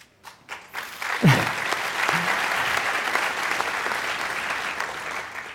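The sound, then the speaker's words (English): An audience breaks into applause, starting with a few scattered claps and swelling within a second into steady, sustained clapping that lasts for several seconds. “Yeah, they deserve the applause.”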